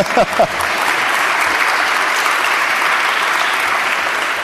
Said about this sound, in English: So someone clapping them, not me.